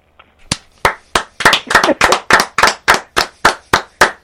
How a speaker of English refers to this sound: By the way, we're standing up and clapping right now. Yes. I bet you this is the first time in your life you've screamed yes, yes, yes, and had three men give you a standing ovation.